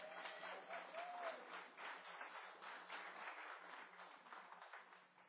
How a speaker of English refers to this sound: I would ask of you to please, in thunderous applause, give it up for Linda Sherman, because she's been married to Max Sherman for 45 years.